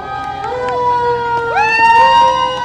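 A fire truck siren wails loudly, its tones sliding upward in repeated rising sweeps over a low murmur of crowd noise, during a parade through Whitefish welcoming home Olympian Maggie Voisin, with people lining the street.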